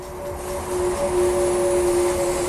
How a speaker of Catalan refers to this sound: Pel que fa al motor elèctric, tot i ser molt més potent que alguns de combustió, als fans dels esportius els falta soroll. Així sona un Ferrari normal i així sona el nou elèctric.